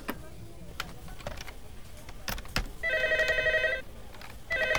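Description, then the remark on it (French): A telephone rings with an electronic, warbling tone: one burst lasting about a second, then a second ring starting after a short pause. Sharp clicks and knocks come before it. “Allô? Ouais, ben, il a un peu détraqué, votre téléphone.”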